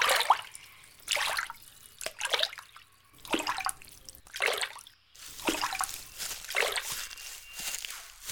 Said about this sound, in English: Well, we survived another river crossing. It wasn't so bad, but I wouldn't want to make a habit of it.